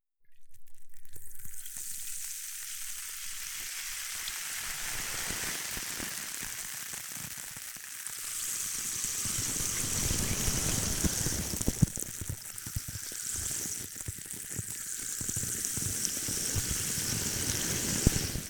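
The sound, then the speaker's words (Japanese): Fine-bubbled carbonated water pours steadily as it is used for rinsing, a dense crackling hiss of fine bubbles that grows fuller and louder partway through, with no voices. “続いて、泡のキメが細かい炭酸で流します。”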